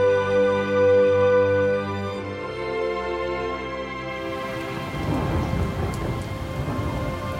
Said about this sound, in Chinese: 那天下午突然来了一场暴风雨，把我们的营区变成汪洋大海，雷声隆隆。